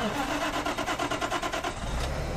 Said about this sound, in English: I'm going to start this story with a little public radio cliche, the sound of someone firing up a truck engine.